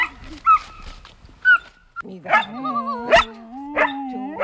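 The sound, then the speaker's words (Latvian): Collie dogs, among them the talkative Romeo, bark back and forth, mixing short sharp yelps with drawn-out whiny, howl-like calls that rise and fall, one answering the other over a few seconds. “Ko viņi saka šobrīd viens otru?”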